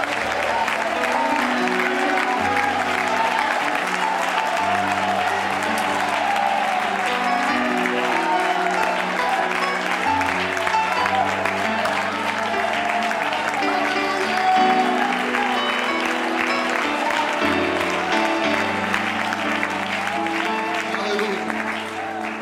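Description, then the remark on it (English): A large crowd at a worship service claps and shouts praise to the Lord together in a sustained, dense roar of applause and cheering, with low sustained organ-like chords swelling underneath throughout. “I know we've been worshiping a while, but why not shout unto the Lord?”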